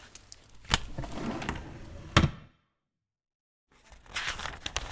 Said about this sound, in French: Après, s'il te plaît, tu regardes au début du livre. Il y a une petite pochette avec une étiquette. Tu sors l'étiquette de la pochette.